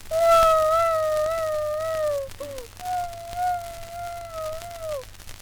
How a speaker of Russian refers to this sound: Что ты плачешь? Рёбушка, Рёбушка, коровушка. Девочка-ревелочка, хныкалка, сопелочка.